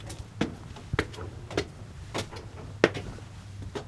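A side door is worked open with a series of sharp clacks and rattles at irregular intervals, over a low steady hum, as the center's director of development enters what will soon be the new Northwest Arkansas Free Health Center.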